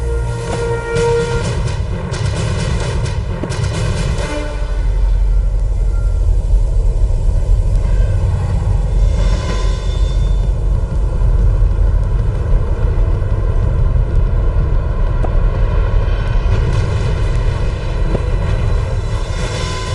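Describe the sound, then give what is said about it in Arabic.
The pulse-jet engine of a German-made, self-propelled V1 flying bomb drones steadily and loudly for the whole stretch, a continuous rough buzzing roar with a deep rumbling low end and no voices. “القنبلة الطائرة V1، تلك كانت المرة الأولى التي يسمع فيها العالم بقنبلة تطير بدفع ذاتي، هي من صنع ألماني”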